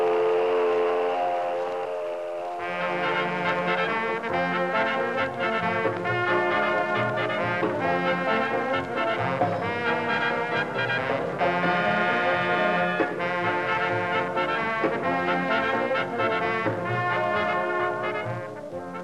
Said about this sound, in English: And there goes the mill whistle.